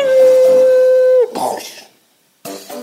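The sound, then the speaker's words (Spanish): A frightened dog lets out a long, steady, high howl that drops off abruptly, followed by a short rough whimpering burst, a brief pause, then another whine starting up, fairly loud. “Le gusta sentirse valiente y asustan los perros.”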